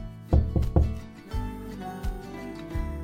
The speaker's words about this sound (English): However, their joy was interrupted by a knock at the door.